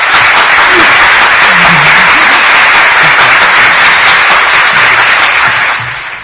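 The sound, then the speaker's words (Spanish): Loud, sustained applause from a crowd celebrating a programme's third anniversary, a dense steady wash of clapping with faint low voices underneath, tapering off slightly at the very end. “Con lo cual eso se necesita un auténtico aplauso.”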